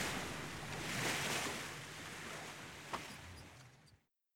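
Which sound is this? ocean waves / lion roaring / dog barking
ocean waves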